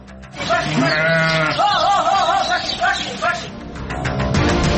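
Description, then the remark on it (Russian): A flock of sheep bleats in overlapping, wavering cries, several animals calling at once, fairly loud, with a steady outdoor rumble underneath throughout. “И как вырастить отару овец вблизи фронта?”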